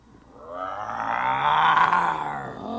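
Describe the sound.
A person growls like a bear, one sustained rough, rumbling roar that swells in loudness and holds for a few seconds, with a harmonic, strained voice quality.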